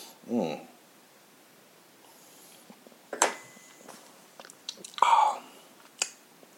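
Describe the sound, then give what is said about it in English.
Quiet sips of golden rye whiskey: a few short, wet slurping bursts spread apart, with soft mouth and lip noises and faint breaths between them. “All right, go back into the golden rye now. Let's go ahead and sip.”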